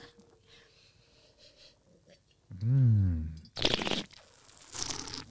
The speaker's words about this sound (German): Dieses Schlürfen macht man ja, um ein bisschen mehr Sauerstoff in den Mund zu kriegen, damit der Wein einfach seine Aromen auch im Mund noch etwas mehr öffnet.